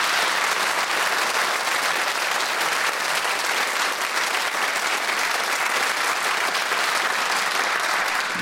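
A sustained round of studio audience applause for a quiz contestant, loud and dense, with steady clapping filling the whole stretch at an even level and no voices standing out.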